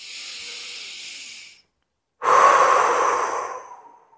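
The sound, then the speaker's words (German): Two deep breaths in a belly-breathing exercise to wake up the body and voice: a steady airy inhale, a short pause, then a louder, fuller exhale through the mouth that gradually fades out. “Und versuchst mal, die Hände nach außen zu drücken durchs Atmen.”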